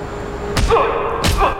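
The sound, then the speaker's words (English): Two heavy punches land about a second apart in a beating, each a sharp smacking thud with a low body, over a steady background hum. “watching him being pummeled with punches and beaten to a pulp.”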